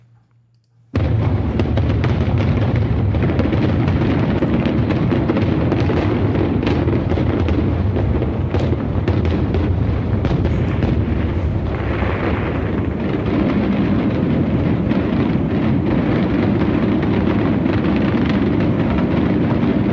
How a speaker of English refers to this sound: So we're going to end the show with some fanfare and some fireworks.